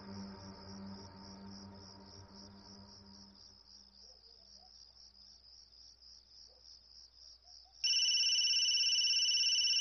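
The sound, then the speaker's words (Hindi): A mobile phone starts ringing loudly and abruptly near the end, its electronic tone cutting over a steady, pulsing chirp of crickets that fills the background. No one speaks. “बेटा मोबाइल उठाओ।”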